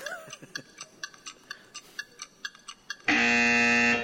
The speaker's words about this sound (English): Beulah the Buzzer. How many remember Beulah the Buzzer? You remember her? Yes. Time's up.